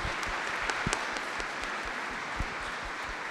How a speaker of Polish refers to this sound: Piękne świadectwo, wielkie brawa